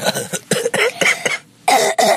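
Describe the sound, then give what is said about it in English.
A child who has been to a clinic coughs on request for the camera, a rapid series of harsh, raspy bursts, a brief pause, then two more loud coughs, with no talking. “Cough in the camera. Cough, so we can hear it.”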